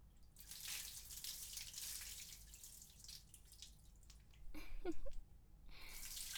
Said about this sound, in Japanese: では、陛下、お流しいたします。